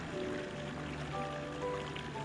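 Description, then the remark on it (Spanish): A motorboat engine hums steadily over a constant wash of rushing water and spray, fairly loud, its tone shifting slightly as it runs, as the boat sets off at sunrise and accelerates out to sea. “Miro al joven lanchero de rostro fuerte y despejado, mientras acelera sonriente hacia el mar.”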